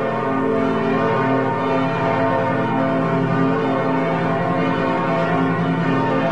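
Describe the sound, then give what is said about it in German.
The bells of all five churches in Lübeck's old town peal at once, their overlapping tones blending into a dense, continuous wash of ringing that stays loud and steady throughout, with no voices. “So hört es sich an, wenn in Lübeck alle Glocken der fünf Kirchen gleichzeitig läuten.”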